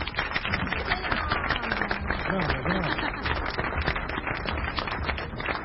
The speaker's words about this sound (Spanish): ¡El aplauso!